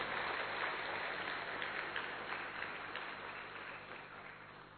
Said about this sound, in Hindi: मेरे को तो नहीं, ऐसे ऐसे कम ताली नहीं, अगर ताली मारेंगे a huge round of applause.